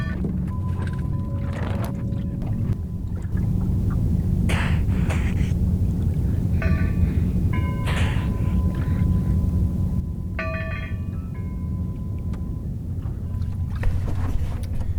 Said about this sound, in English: The breathing of the harbor porpoise. They got really close. They were probably, were just drifting along, barely making any headway, waiting for the afternoon sea breeze to kick in.